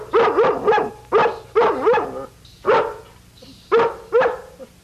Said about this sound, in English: What's she barking? I don't know.